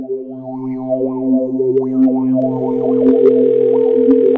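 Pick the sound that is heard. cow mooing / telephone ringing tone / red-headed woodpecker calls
telephone ringing tone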